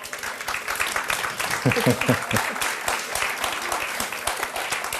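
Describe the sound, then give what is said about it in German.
An audience at the Radio 1 Parkfest applauds steadily for several seconds, a dense crackle of many hands clapping, with a brief burst of voices calling out partway through. “Vielleicht noch ein kleiner Applaus für Elissa Hirsemann.”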